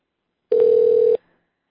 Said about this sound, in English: And we'll all have to hear the phone being rung because he's using a new system.